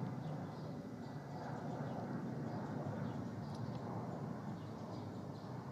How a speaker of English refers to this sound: The plane flying above.